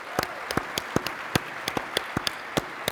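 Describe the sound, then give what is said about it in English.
Applause for an award winner, made of distinct, evenly spaced sharp claps in a quick steady rhythm, about a dozen over a few seconds, moderately loud over a faint hiss, with no one speaking. “All right, big round of applause for our winner”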